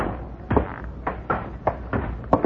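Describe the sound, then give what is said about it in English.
A heavy wooden trap door in the ceiling, leading up into a tower, is pushed open with a series of irregular thuds and creaks, about six knocks against a steady low background hum, with no talking. “I think if we push on the ceiling, we'll find our trap door.”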